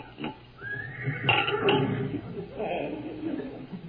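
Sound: horse whinnying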